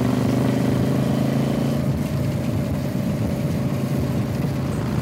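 Three motorcycles ride in convoy, their engines rumbling together in a loud, continuous low drone with a throaty pulse that roughens slightly midway, with no voices.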